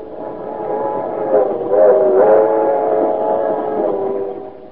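A passenger train rolls along the rails in a steady, droning rumble with a tonal hum that swells slightly midway, continuous and fairly loud, with no voices.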